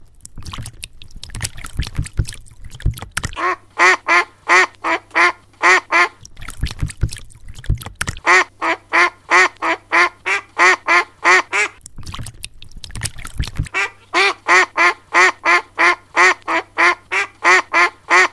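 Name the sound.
ducks quacking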